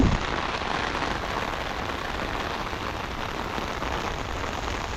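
Steady rain pours down outdoors in cold conditions, a dense, continuous hiss of drops striking surfaces, even in loudness throughout with no voices.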